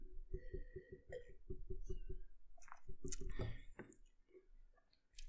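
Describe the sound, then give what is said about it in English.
Someone sips wine from a glass, from a blue bottle: a quick run of soft, rhythmic gulps and swallows, then wet mouth clicks, a slurp and faint glassy ticks. Quiet, with no talking. “So let me just share this one just a little bit while I take a sip.”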